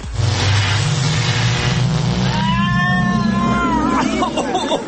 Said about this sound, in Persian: ماشین زمانش رو روشن کرده کجا سفر کرده.